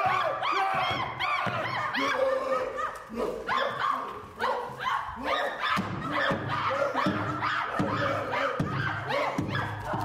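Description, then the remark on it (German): Several actors on stage imitate apes at the end of a theatre production, a loud, dense tangle of overlapping hoots, shrieks and yelps that rise and fall without pause for the whole stretch. “Ergibt das auf Dauer Sinn, diese Affengeräusche auf der Bühne?”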